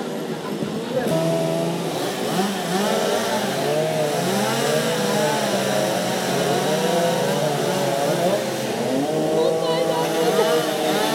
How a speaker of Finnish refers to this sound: Eipä uskoisi, että on kaupungilla, kun kuuntelee tätä moottorisahojen ulinaa.